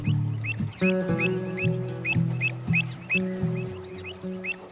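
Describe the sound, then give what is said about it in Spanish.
Birds chirp in quick repeated bursts, clear, hopping from branch to branch in an old carob tree, over a steady backdrop of low sustained humming tones that rise and fall throughout. “Sentí la alegría de los pájaros.”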